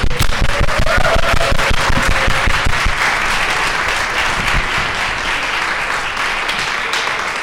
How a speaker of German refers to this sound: Auf jeden Fall ein Applaus wert.